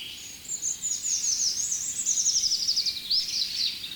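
A soft, high-pitched European robin sings continuously in the background, a thin, rippling series of quick notes drifting up and down over faint ambient noise, with no voices present.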